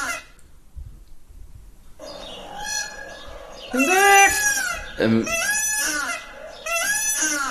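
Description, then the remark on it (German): A loud, harmonic bird call rings out in several long rising-and-falling bursts with brief pauses, after a quiet opening second or two, like an exotic bird calling. “Ja, das ist wieder typisch, dass Vögel einen so ja auch in so eine Umgebung schleudern”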